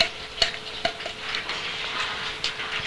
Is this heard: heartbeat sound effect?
no